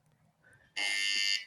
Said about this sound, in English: got the buzzer